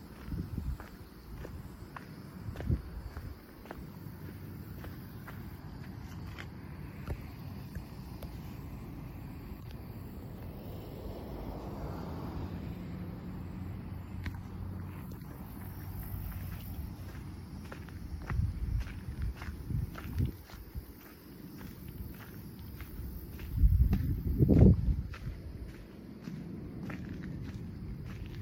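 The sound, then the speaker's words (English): Steady crunching footsteps of people walking on a gritty, sharp oyster shell path along the shoreline, a brisk irregular rhythm of sharp crackly steps over a low rumbling outdoor background, with a louder thump near the end. “we're walking along a shell path. Caution, sharp oyster shells along the shoreline.”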